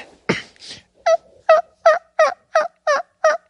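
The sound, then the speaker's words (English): A man imitates a turkey gobble with his voice alone: a rapid, rhythmic series of eight or so short, throaty, warbling yelps at a steady pace, loud and without talk over it. “Do your turkey call with no turkey call.”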